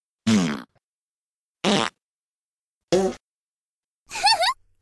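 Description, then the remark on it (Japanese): Four short, loud farts in a steady sequence with pauses between, sputtering, the last one longer with a wavering, rising squeak. “君の肺に入りきらないくらい、私のおなら、詰め込んであげる。”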